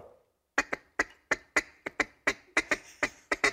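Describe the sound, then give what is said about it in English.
A person imitates a mallard hen's feeding chatter: about a dozen quick, sharp clucking notes in an uneven rhythm, loud, after a brief murmur of speech at the start. “Now that's the mallard.”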